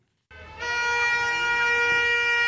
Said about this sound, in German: Solidarisches Hupen der Autofahrer in der belarussischen Hauptstadt Minsk.